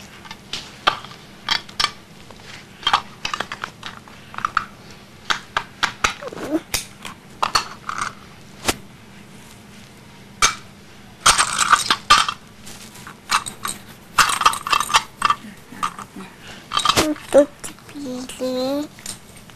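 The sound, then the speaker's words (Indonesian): Dishes clatter and clink in irregular bursts as they are being washed, with scraping and scrubbing sounds and splashes of water, some louder rushes of noise midway through. “Mereka lagi cuci piring ya.”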